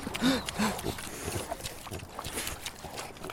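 pigs grunting

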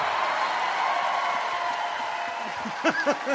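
audience applause

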